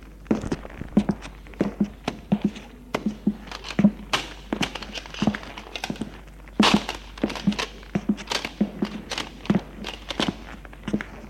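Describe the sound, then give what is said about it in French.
Heavy footsteps of a furious man pacing restlessly around an apartment like a beast, a steady run of dull thuds with occasional sharper knocks and clatters as he moves things in passing. No one speaks. “Va, viens, comme une bête dans l'appartement. Déplace des choses au passage.”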